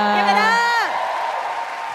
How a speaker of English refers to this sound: Clap it up